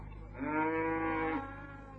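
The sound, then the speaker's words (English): Cattle lowing: one long, drawn-out moo lasting about a second, clear, rising above a steady low rumble of background noise, with no talking. “The sun was high now, the smell of the cattle overpowering.”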